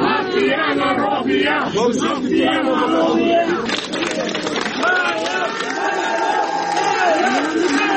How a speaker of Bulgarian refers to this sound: Тој пред судот беше испратен и дочекан со овации од неколку стотици демонстранти кои дојдоа да му изразат подршка.